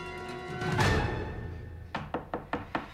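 A front door being kicked in: a loud swelling crash, then a quick series of five sharp, evenly spaced bangs against the door, with no voices.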